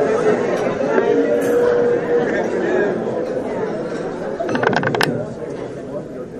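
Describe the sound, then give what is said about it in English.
A steady murmur of many overlapping voices from a well-behaved crowd, including many students, at a First Friday Club of Greater Akron gathering, at an even, moderate level, with a quick cluster of light clinks and taps near the end. “Very well-behaved crowd today.”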